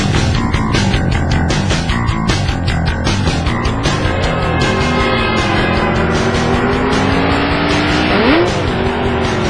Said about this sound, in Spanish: así con todo y alfileres, monta su motocicleta prestada y se lanza a toda velocidad hacia el lugar de su boda.